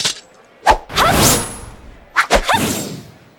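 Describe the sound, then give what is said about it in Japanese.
Two bursts of a naginata blade whooshing through the air during a naginata demonstration, each a sharp crack-like onset followed by a long, airy swish, with a short pause between them; no talking. “なぎなたをお見せします。”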